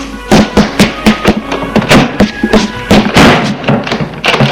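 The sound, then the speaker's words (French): Objects are hurled to the floor in a rapid, irregular series of loud thuds and crashes, a dozen or so sharp impacts tumbling over one another with no voices. “Là, on entend hurler, jeter à terre des objets.”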